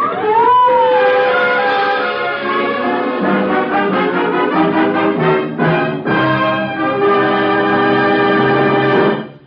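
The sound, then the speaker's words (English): Police car sirens wail loudly and continuously, several overlapping tones blaring together for the whole stretch, with a brief rising swoop near the start and no voices. “Police cars. They must have followed you here.”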